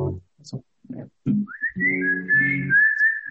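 A person warms up their whistle, whistling a long, wavering tone that slides up and then holds steady and clear, after a few short murmured vocal sounds.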